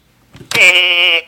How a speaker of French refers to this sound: Ceci est un mouton.